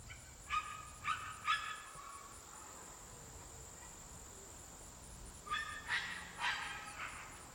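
Dogs being run down a rural country road bark in two short bursts of about three barks each, separated by a quiet pause, over a steady high-pitched insect drone outdoors.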